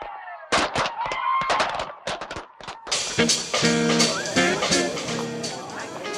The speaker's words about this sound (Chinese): 你觉得今日嘅烟花点话 ？Well, I guess they were okay, but I was hoping that they would be better. 你觉得仲可以更好啲？但系我觉得佢已经好好噶啦噃。